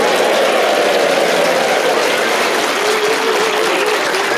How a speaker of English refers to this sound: Please whoop and cheer and go absolutely crazy for all four of them.